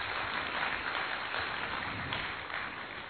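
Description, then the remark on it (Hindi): An audience applauds steadily for about three seconds, a dense, even wash of many hands clapping with no pauses and no voices standing out. “सभी तालियां बजाए दीदी के लिए, 60 साल हो गए, कोई कम नहीं है।”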